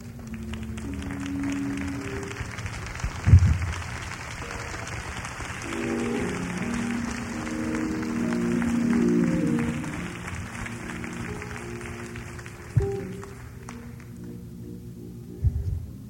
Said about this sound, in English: I'm not real sure if you're clapping because you got something, or you're glad it's over.